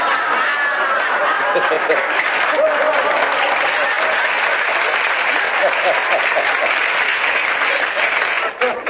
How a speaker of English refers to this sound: I don't know what you're applauding for.